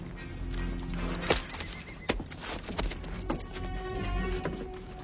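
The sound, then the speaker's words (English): A horse whinnies while hooves clip-clop on a hard surface, sharp hoof strikes punctuating a steady rumbling background, moderately loud with no talking. “Spock, hold your horse, Captain.”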